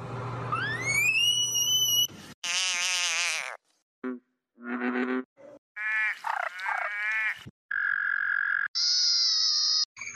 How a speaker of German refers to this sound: Xenopus laevis, auch glatter Krallenfrosch, glatter Spornfrosch oder Apothekerfrosch genannt.